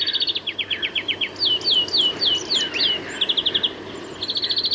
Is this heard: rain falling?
no